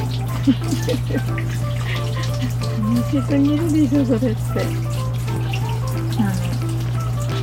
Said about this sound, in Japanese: っていうか、これが車の中だなんて信じられない。またホームって素晴らしい。シャワー入ってる。しかも家でもなくホテルでもなく車の中。